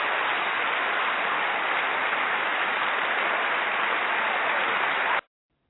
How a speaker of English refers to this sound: You know what? I don't want to cut it short because you deserve more claps than that.